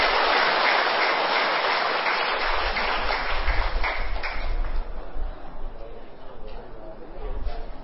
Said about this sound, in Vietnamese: Hãy dành một tràng vỗ tay thật lớn để chúng ta làm quen nhau.